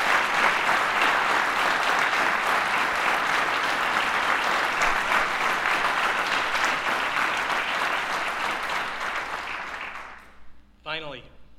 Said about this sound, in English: I'd ask you to recognize them with a round of applause.